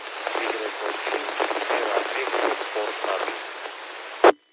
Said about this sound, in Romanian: Îmi pare rău, semnalul foarte slab și acoperit de paraziți, ești importabil.